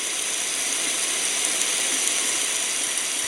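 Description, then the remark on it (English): Heavy rain pours in a dense, unbroken hiss, bright and steady in level for the whole few seconds, with no individual drops standing out and no voices. “That's hella rain.”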